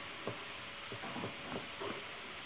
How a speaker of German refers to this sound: Es tut mir übrigens leid, dass man im Hintergrund einen Staubsauger hört. Ich kann dafür nichts. Bei dir wird wenigstens Staub gesaugt.